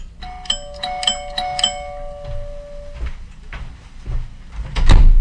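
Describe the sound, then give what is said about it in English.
A doorbell chimes with several quick bright strikes and a long sustained tone ringing out, followed by soft rustling and clunking noises, like a door being handled. “Al watched soccer when the bell rings.”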